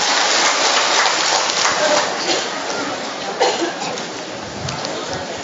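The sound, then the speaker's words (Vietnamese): A large crowd claps in a dense, continuous wash of applause that holds steady for the whole stretch, easing off slightly toward the end, with no voices standing out. “Cho một tràng pháo tay khoảng độ 300 người lâm pháo thủ thưa anh chị em.”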